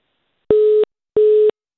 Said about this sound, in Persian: بله تلفن هم بیرته قطع شد.